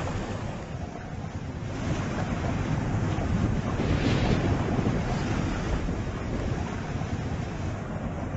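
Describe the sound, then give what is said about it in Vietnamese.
A steady, loud roar of rushing river water, churning continuously with a dense, hissing rumble and no pauses, with no voices. “Nước Tro đủ dạng chảy xiết, tiếng ầm ầm tạo cảm giác rần rần.”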